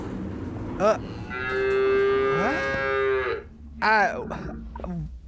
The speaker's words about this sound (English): That's a cow. Well, sort of, yeah. Mostly.